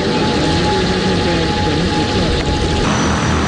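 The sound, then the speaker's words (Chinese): A V50P Great White Shark cargo drone takes off from a public drone takeoff and landing site in Putuo District, Zhoushan, Zhejiang, China; its engine whirs loudly and steadily, a dense continuous propeller drone with faint humming tones that holds its level for the whole stretch. “本月初，在位于浙江舟山普陀区无人机公共起降场，一架 V50P 大白鲨无人机腾空而起，经过40公里航程，历时21分钟，顺利降落普陀区东极镇野外起降点。”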